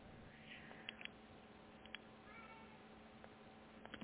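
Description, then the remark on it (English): A cat meows in drawn-out, wavering cries over a low background hum, with a few faint clicks in between; no one speaks. “Do you have a cat”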